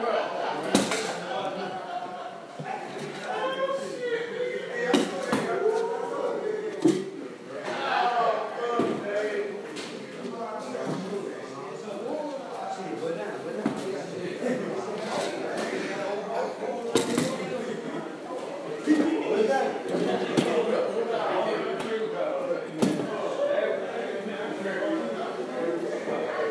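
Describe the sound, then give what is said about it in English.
Chairs are put up onto tables at the end of the night with a string of sharp, irregular wooden clunks and knocks, over a steady murmur of voices and room noise. “Y'all wondering what I'm doing right now? I'm putting up chairs.”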